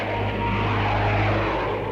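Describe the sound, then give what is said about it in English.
Low propeller airplanes drone steadily overhead, a loud, continuous engine hum with a deep rumbling tone that holds for the whole stretch without fading. “Planes. How low they're flying.”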